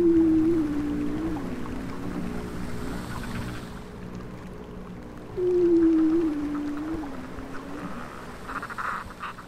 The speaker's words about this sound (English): The last northern trip I was on a research trip in the marginal ice zone. This is where I heard the bearded seal.